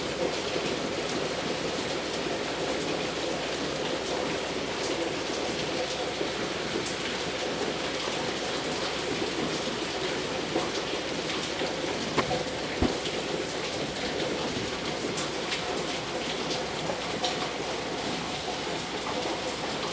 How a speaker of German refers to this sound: Den spiele ich auch mal kurz ein, weil das auch, weiß ich nicht, dieser Klang von Regen. Einfach mal reinhören. Gerade seit gut zwei Tagen ungefähr ist jetzt die ganze Zeit Jugo. Man hört einfach nur extremen Regen. Und Wind.